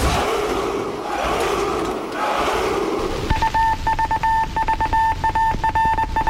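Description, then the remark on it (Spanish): A roaring battle crowd gives way to the eerie jingle of a personality questionnaire segment: steady high-pitched tones held over a quick, pulsing beat, loud and unaccompanied by any speech. “El sonido inquietante del cuestionario.”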